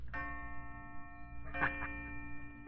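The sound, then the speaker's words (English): Sustained, ringing chime tones from a pocket watch, set off by pulling out the little lever on its side, play steadily with no voices, layered bell-like notes holding throughout, with a brief brighter flourish midway, moderately loud. “Those are pretty chimes.”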